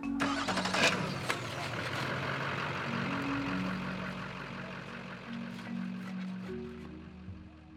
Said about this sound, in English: They set out the food and sit around in a circle, chatting, gossiping, and poking fun at one another until it's well past dark and it's time to quench the fire, load up the trucks, and leave.